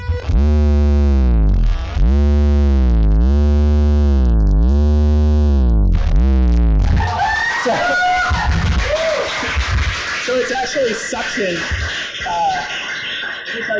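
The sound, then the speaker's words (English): Loud, distorted buzzing suction feedback from a vibrator touching a microphone, swelling in regular wavering pulses for several seconds, then collapsing into a scratchy, noisy jumble with voices underneath. “It's suction feedback.”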